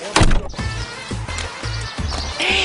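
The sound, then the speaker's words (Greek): Steady clip-clop of donkey hooves plodding along at an even pace, opening with a brief loud bray-like call, with no talking. “για σένα μέχρι και GPS έβαλα στο γάιδαρο.”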